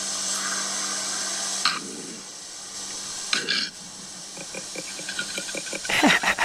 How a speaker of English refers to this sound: Koala mating call.